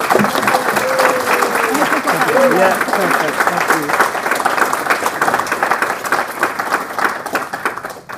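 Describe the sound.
An audience applauds a guest speaker as he is introduced, dense clapping that holds at a strong level for several seconds before tapering slightly, with faint voices murmuring underneath.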